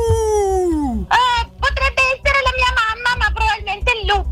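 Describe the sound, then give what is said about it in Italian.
A wolf lets out a long, wavering howl that slides downward in pitch, then breaks into a rapid run of short, high yips and yelps that continue to the end. “Il lupo cattivo, la favola di Cappuccetto Rosso.”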